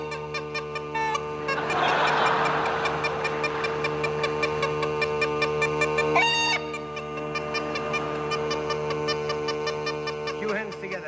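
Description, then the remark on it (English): Uilleann pipes over a steady drone, the chanter firing quick, choppy staccato notes that mimic hens clucking and squawking, loud with no voices. “They'll be frightening the hens next. Now the hens.”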